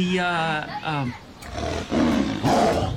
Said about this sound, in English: The tiger. And we were just wondering if he'll be locked up. Yeah, will the tiger be locked up for the whole time?